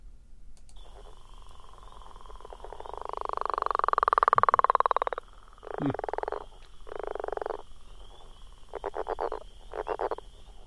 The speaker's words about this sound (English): I like that one. I wonder, as you're listening here, do you know what that frog was? That frog sound? You're thinking as you're listening.